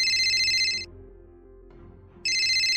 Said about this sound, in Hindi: तभी अभी के फोन पर घंटी बजी।